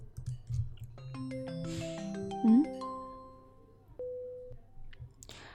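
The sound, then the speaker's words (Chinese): A phone ringtone plays a melody of stepped electronic tones over a low hum, then ends on a single short steady beep. “今天你们是组团给我打电话吗？”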